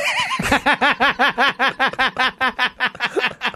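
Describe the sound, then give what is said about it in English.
A horse whinnies loudly in a movie scene where Schwarzenegger rides it to follow a motorcycle, a long shuddering call broken into a rapid string of quivering, nasal pulses that keep a steady rhythm for several seconds. “Schwarzenegger was like, all right, if he made it on that motorcycle, I can surely make it on this horse.”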